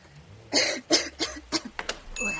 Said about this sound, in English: I heard coughing.